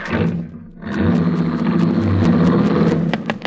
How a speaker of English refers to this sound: as they ran out to her car, jumped into the front seat, and drove it away.